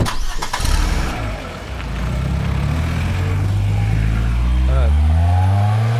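The engine of a commandeered car starts with a sharp clatter, then revs steadily, its low droning pitch climbing as the vehicle accelerates and drives off, loud throughout.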